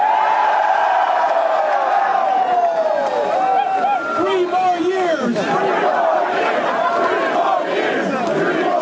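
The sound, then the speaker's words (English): A large crowd in front of Sparty at a hastily called press conference chants "3 more years" and cheers loudly and without pause, many voices rising and falling together in pitch, with scattered whoops and shouts layered over the steady roar. “Crowd chanting 3 more years.”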